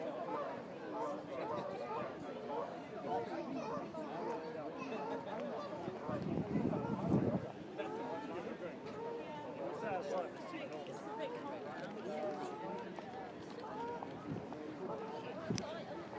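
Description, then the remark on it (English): A steady hum of many overlapping voices chatters outdoors, no single speaker standing out, with a brief louder burst of sound midway through. “Well, even if we don't get any boats, there's plenty of people about for the atmosphere.”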